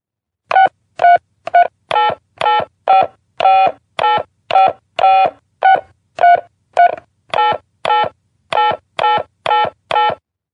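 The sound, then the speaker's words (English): A long run of telephone keypad tones, about twenty short beeps pressed in a steady, slightly uneven rhythm, loud, with brief silences between each press and no voices, as a debit card number and password are entered during an automated phone call to add money to a mobile phone. “Now enter your debit card number and your password.”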